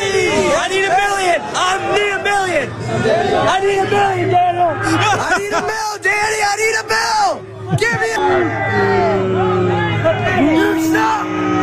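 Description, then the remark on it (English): A dense crowd of Giants fans, waiting after a lost game for Daniel Jones to come out to his car, shouts, yells and bellows over one another continuously, loud and agitated, with rising whoops and hollers layered over a steady roar of babble. “And remember, they didn't win, but they waited for him to come out so he can go to his car. Jump him? I don't know, but this is what it sounded like.”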